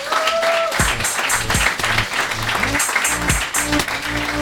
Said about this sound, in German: Applaus!